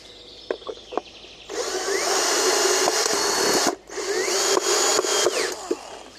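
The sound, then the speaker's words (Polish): A few sharp clicks, then a power drill whirs loudly as it drives in a screw, pausing briefly and starting again, its motor pitch shifting up and down before it stops. “I się wkręciło.”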